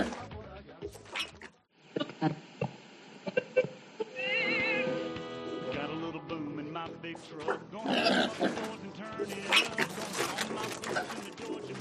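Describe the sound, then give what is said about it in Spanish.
A pig named Manolito, raised in the fields of Extremadura, grunts and oinks in a series of short bursts, with some longer squealing, warbling cries mixed in over a steady tonal background. “Él es un cerdo criado en los campos de Extremadura.”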